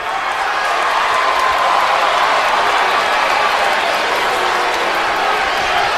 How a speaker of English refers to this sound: Those of you who are cheering me right now, you are just the biggest part of me leaving as anything else.